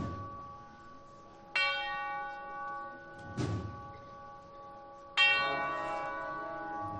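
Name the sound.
church bell chimes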